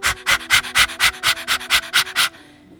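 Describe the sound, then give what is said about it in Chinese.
Rapid, forceful breathing in and out through the mouth during a fast breathing exercise focused on the solar plexus, about nine loud, breathy huffs in a steady quick rhythm with no talking, ending abruptly in near silence. “你可以用嘴吸气吐气，第一阶段先用嘴巴吸气吐气，就像这样。”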